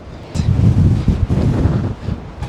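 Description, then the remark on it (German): Strong outdoor wind in extreme weather overlooking Zurich buffeting the microphone, a loud continuous low rumble with gusty surges and rustling hiss, steady for the whole stretch with no voices. “Man hört den Wind also schon.”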